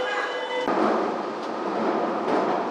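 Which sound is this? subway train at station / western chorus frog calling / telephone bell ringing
subway train at station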